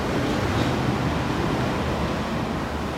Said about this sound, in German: Das sind ja wirklich gewaltige Wassermassen, die wir da im Hintergrund hören.